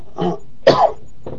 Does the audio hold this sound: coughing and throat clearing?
yes